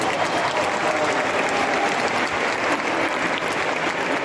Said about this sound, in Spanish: Tras un aplauso emocionado al que se suma Monseñor Auza, todo se dispone para que, faltando 15 minutos para las 7 de la tarde, asomara por fin por el portón de la Basílica de San Miguel el Cristo tallado por Luis Salvador Carmona en el siglo XVII.